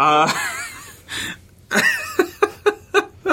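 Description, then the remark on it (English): High, wavering whimpers and whines give way to a run of rhythmic, breathy pants, fairly loud, like a dog panting heavily and whimpering, with no talking over it. “Dog noises. Seriously, what the fuck? We don't need creepy animal heavy breathing.”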